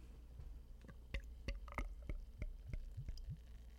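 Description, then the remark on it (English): A beer bottle cap gives a couple of sharp clicks as a Belgian-style tripel is opened, then the beer glugs and bubbles into a glass in quick, wet bursts, quickly forming a large head. Fairly quiet, with no one talking. “So let's crack it open and see what we are dealing with.”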